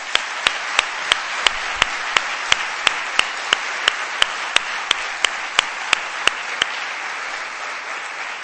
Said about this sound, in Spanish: A toda esa gente, de verdad, a la militancia, a los simpatizantes del PSOE que estáis aquí hoy y a los que no han podido venir, de verdad, por favor, de nuestra parte no somos nada sin ellos. Un aplauso, por favor.